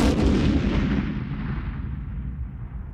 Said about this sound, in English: The plane crashes into the Trump Tower and everyone dies.